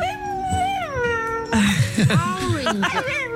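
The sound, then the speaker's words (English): A Chinese dog mimics human speech, repeating things after its owner like a parrot, with a long, wavering, whiny howl, followed by a burst of choppy, word-like vocal sounds that rise and fall in pitch. “This is an amazing Chinese dog who repeats things after its owner in a way that I've only ever heard a parrot do.”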